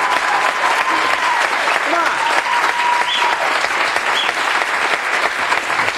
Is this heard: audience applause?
yes